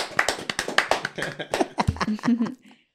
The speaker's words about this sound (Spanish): Bueno, un aplauso para esta persona. Que se presente solita.